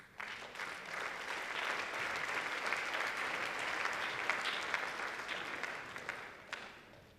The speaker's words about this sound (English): And off you go. The applause for them, please.